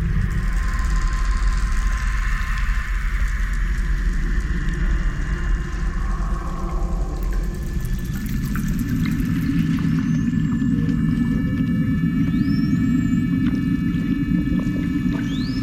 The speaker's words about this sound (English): Everything you hear is recorded. There's no synthesis or anything like this. There's a small amount of manipulation, sonic manipulation, but most of it is just recordings from under the water. Lots of snapping shrimp recordings and seals.